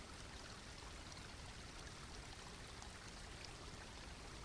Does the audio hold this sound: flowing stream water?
yes